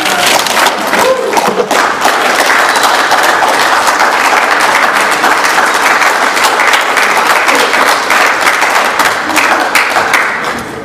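People at a Narcotics Anonymous meeting applaud a speaker steadily, dense overlapping claps sustained at a strong, even level for about ten seconds before easing off at the end.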